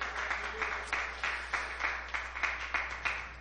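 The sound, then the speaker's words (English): A church audience claps together in praise in a dense, steady burst of applause, many hands striking in quick overlapping rhythm from start to finish, moderately loud with no voices. “If you're happy to be in the house of God, would you give him a hand clap of praise in this place?”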